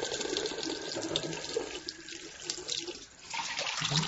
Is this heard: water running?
yes